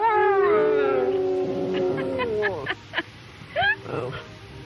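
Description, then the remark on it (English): Lyndon Johnson's dog howls as if singing, in a long, drawn-out, tuneful note that wavers and then slides downward, followed by a few short yelping bursts, loud. “This was a man who could get his dog to sing.”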